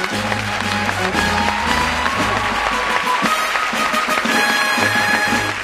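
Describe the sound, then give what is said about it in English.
An audience claps steadily for several seconds as a guest is brought out, a dense, even wash of applause with a few cheers, while upbeat music with a bouncing bass line plays underneath. “Let's bring him out here with a big round of applause.”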